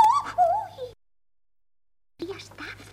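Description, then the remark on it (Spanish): A bird bathing its chicks by a forest stream gives a short burst of warbling, cooing calls, clear for about a second, then cuts to silence before a voice starts speaking. “Un poco más arriba, había un pájaro que estaba aseando a sus pequeñuelos.”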